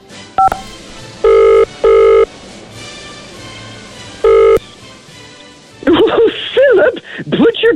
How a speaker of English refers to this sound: Back on, the phone is ringing. Wow. Excuse us, Your Majesty.